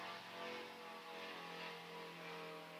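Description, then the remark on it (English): A steady, droning engine roar of an airplane passing overhead, holding a fairly even loudness with a tonal hum throughout, and no voices. “We'll let the plane go.”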